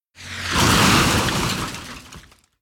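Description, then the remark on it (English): A fast-moving car slams into a horse-drawn caravan on a road with a loud crunch of breaking and shattering debris that clatters on for about two seconds before quickly dying away. “Suddenly a car appears and it's going very fast. It crashes into the caravan.”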